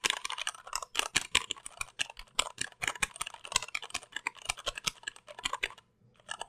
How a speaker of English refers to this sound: Even when I'm pounding the switches, they seem pretty sedate